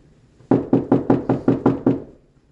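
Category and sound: impact, knocking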